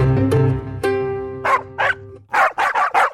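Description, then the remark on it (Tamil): A dog barks up close, starting with a few drawn-out, high yelping barks, then a quicker run of five or six sharp barks in a steady rhythm. No one speaks. “மனிதனுக்கும் நாய்க்கும் இடையிலான இந்த பிணைப்பை கௌரவிக்கும் விதமாக சர்வதேச நாய் தினம் கொண்டாடப்படுகிறது.”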